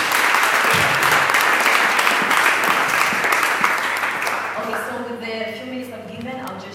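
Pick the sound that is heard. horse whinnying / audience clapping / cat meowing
audience clapping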